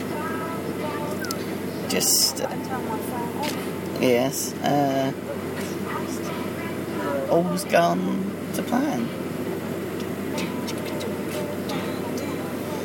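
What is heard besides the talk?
airplane cabin engine drone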